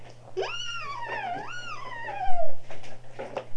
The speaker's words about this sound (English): Meow.